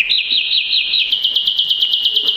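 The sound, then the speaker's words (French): In a Cinderella story, a small bird whistles louder to call the mice, a rapid, high-pitched trill, first a wavering run of notes, then quicker repeated chirps that continue steadily and loudly to the end, with no voices. “Il siffle plus fort.”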